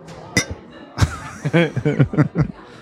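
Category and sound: household object, glasses clinking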